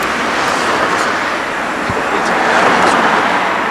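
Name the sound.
car driving away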